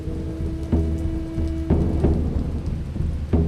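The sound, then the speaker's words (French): Steady rain falls to the ground, a constant hiss with a few sharper splashes standing out, over a low rumbling undertone and faint hum; no one speaks. “La pluie la précipite au sol avec ce premier bagage à qui elle sert de moyen de transport.”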